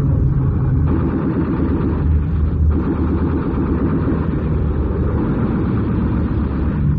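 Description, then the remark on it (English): Loud, continuous roar of attacking Messerschmitt fighter plane engines, a dense droning growl that holds steady for several seconds with slight rising and falling pulses, with no voices. “Look out. Messerschmitt.”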